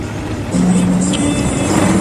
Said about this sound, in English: The truck's now heading along a straight road out of town, bordered on both sides by tall trees.